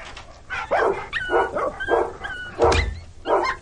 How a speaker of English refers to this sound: That's right, you foul dogs. Shut up.